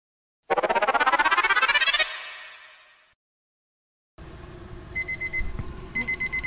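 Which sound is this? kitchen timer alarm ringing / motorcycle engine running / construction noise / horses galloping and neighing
kitchen timer alarm ringing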